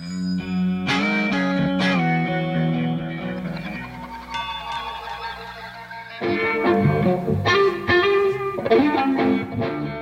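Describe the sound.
A voice imitates distorted electric guitar effects through throat singing, with gritty, buzzing tones and bright overtones that slide and waver, loud, shifting into a denser, rougher passage partway through.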